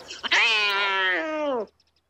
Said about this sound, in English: Frith, it's the farmyard cat.